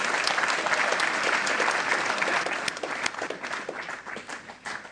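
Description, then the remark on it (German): A church audience claps for newly confirmed young people, a dense wash of many hands with scattered sharper claps, gradually thinning and tapering off toward the end. “Jetzt darf die Gemeinde klatschen und fotografieren.”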